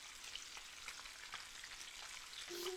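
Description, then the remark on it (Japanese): Chicken karaage frying in hot oil, with the remaining chicken pieces just added: a steady, dense hiss of bubbling sizzle with scattered crackles and pops, fairly soft and continuous, with a brief low hum near the end. “先輩、今度はちゃんと唐揚げの食べ頃の音聞き逃さないでくださいね。”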